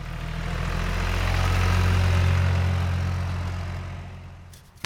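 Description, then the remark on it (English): A tractor pulling a small trailer, driven in the fall down to a nursery of young Douglas fir trees, chugs steadily, a deep, continuous rumble with a throbbing low hum that holds even for several seconds before easing slightly at the end. No one speaks. “So in the fall, we drive our tractor and small trailer down to the nursery where we have planted young Douglas fir trees.”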